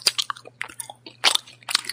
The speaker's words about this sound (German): Ja, von den Verbleibenden, die ich bei Ihnen noch nicht gespielt habe, würde ich dann jetzt wohl das Kaugummi-Kauen als Schlimmstes einstufen. Und deswegen spiele ich das dagegen.